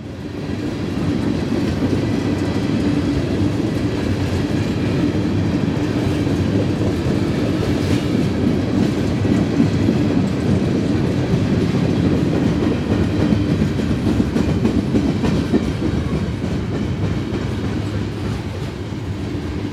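A very long freight train rumbles steadily past as it crosses a road in Auburn, Indiana, just north of Fort Wayne, its cars clattering over the rails in a continuous heavy roar with rhythmic clicks, no voices present.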